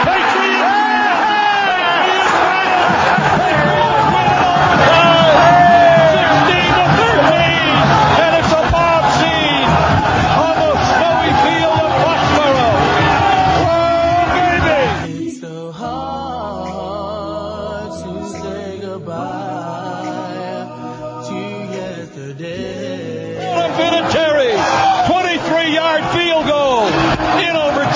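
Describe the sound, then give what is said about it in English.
A huge stadium crowd at a Patriots football game, reacting to Adam Vinatieri's 23-yard field goal attempt from the 13-yard line, roars and bellows in a loud, sustained wall of cheering, eases into scattered shouts and voices for several seconds, then swells up again near the end. “The crowd will tell you whether he makes it or not.”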